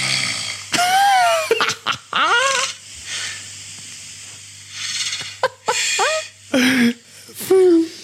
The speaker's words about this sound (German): Oh, jetzt schnarcht er.